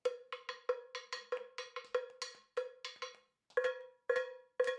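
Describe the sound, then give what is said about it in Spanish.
A hand bell rung over and over, about fifteen bright metallic clangs, quick and irregular at first, then slower with short gaps, each ringing out briefly. No voices. “¿Te acuerdas que cada cumpleaños con la campana sonábamos?”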